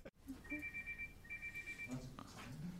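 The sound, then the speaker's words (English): A mobile phone rings for the second time with a bright, electronic trilling tone in two quick bursts, clear, while voices murmur underneath and continue talking after the ringing stops. “Whose phone is that? That's the second time it's gone off.”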